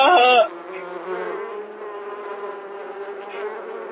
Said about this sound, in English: There's bees everywhere. There's so many bees. Help.